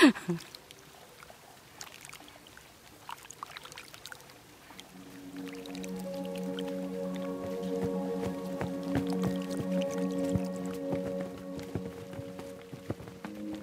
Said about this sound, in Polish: Kąpię się w takiej bali dosyć dużej, wszedł do niej i pewnie tam jest mu chłodno, wodę popija i jest mu dobrze zapewne.